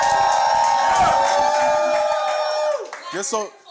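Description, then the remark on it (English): A live crowd cheers and hollers loudly in a dense, sustained roar with shrill whoops on top, fading toward the end as a single voice starts speaking. “Can y'all just make some noise real quick so the camera?”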